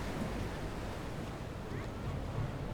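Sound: ocean waves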